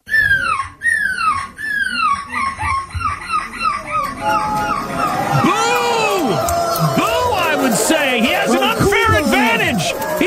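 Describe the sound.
A 9-year-old boy competing in a 2024 gull screeching contest mimics a seagull with a quick run of shrill, downward-sliding squawks, then a large crowd erupts in loud cheering and whoops that carry to the end.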